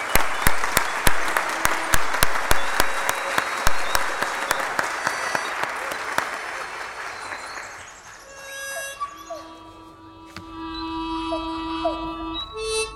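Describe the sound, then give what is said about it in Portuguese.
A crowd applauds the 25th anniversary of the Jean Felipe Cousteau scout group with loud, steady clapping that pulses in a regular rhythm for about eight seconds, then dies away as sustained tonal sounds take over. “Uma salva de palmas aos 25 anos do grupo de escoteiro Jean Felipe Cousteau.”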